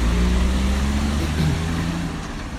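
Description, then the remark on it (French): Car engines hum steadily as cars drive up winding streets between houses, a continuous low drone whose pitch shifts briefly midway before easing slightly toward the end. “Donc à cette heure-là, c'est l'heure des voitures.”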